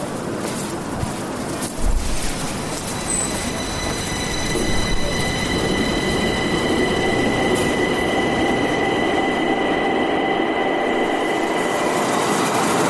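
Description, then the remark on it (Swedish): A Stockholm subway train, travelling from Gamla stan to Rådmansgatan station with Olof Palme on board, rumbles steadily and loudly along the tracks. High metallic wheel squeals ring over the continuous roar, with occasional clunks early on. “Men de har bestämt att ta tunnelbanan och dit är det ett par minuters promenad härifrån.”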